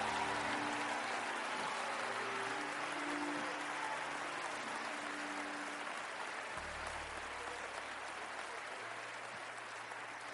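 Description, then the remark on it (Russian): An audience claps hands to give glory to God, in sustained, dense applause for about ten seconds, steady and fairly loud, with a low droning musical tone held underneath and no speech. “Кто-то хлопай в ладоши и воздай Богу славу.”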